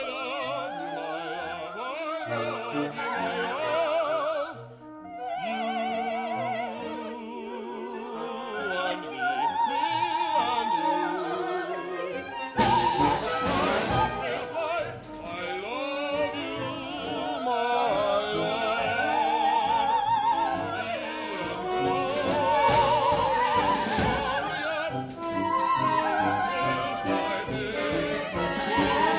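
A lively contemporary classical ensemble piece with jumpy, angular melodic lines, shifting timbres and a sudden burst of fuller, percussive orchestral texture midway, played loud and close with no talking.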